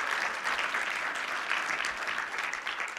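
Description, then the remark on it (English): An audience applauds steadily for Sojourner, a dense, even wash of many hands clapping at once that holds for about three seconds with no voices over it. “Can you give her an applause even though she's not here?”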